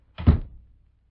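A door shuts with a single dull, heavy thud that rings out briefly and fades, standing alone with no talking, in snowy, stormy weather.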